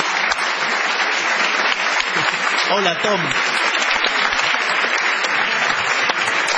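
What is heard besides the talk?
audience applause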